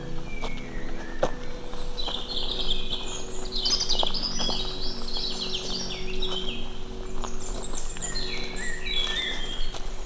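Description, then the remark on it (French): Several birds chirp and trill outdoors at dusk as evening falls, with overlapping calls, some bright, others faint, above a low steady background rumble. “Et puis, c'est la bonne heure, là, les oiseaux. Dans la pénombre du soir qui commence à tomber.”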